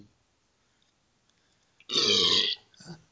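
A loud, drawn-out belch rumbles up after a near-silent stretch, followed by a shorter second burp trailing off, with no talking.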